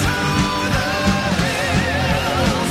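A loud, dense burst of heavy metal rock played as the mystery song in a quiz: thick distorted guitars over pounding drums, driving at a fast, steady beat without pause for under three seconds.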